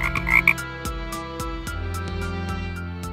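A toad croaks repeatedly in a steady rhythm, fairly loud, with sustained tonal sounds ringing underneath and no one talking.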